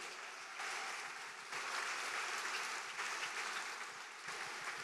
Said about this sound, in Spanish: Todos tenemos un pasado. Sí, de un aplauso.